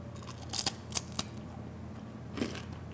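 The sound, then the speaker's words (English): A light, crisp, meringue-like cookie being broken apart: a few quick, dry crackles, with two close together early on and a softer crunch near the end, over quiet background hum and no talking. “That's what it sounds like if you break it apart.”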